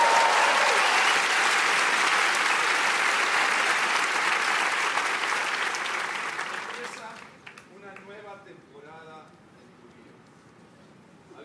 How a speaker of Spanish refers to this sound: Dale un aplauso a Jesús.